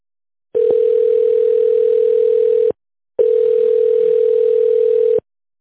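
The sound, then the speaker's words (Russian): A telephone ringback tone while waiting on the line after calling the company Irvins: two long, steady, mid-pitched beeps, each about two seconds, separated by a brief pause, loud and alone with no voices. “Пожалуйста, оставайтесь на линии.”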